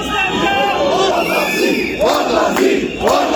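A large protest crowd of dissatisfied entrepreneurs on a square in Zagreb, Croatia, shouting and chanting together, a dense, loud wall of raised voices with rhythmic swells and sharp bursts of yelling throughout.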